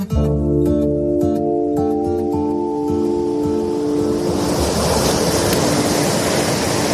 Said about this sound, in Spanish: Estamos a 2 kilómetros de la costa de Oropesa, en Castellón, en pleno mar Mediterráneo.